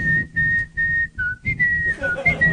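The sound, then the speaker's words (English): Someone whistles a short melody, a string of clear sustained notes that step up and down in pitch, with a few quicker notes near the end and no talking. “And when he's walking at it, he whistles to himself.”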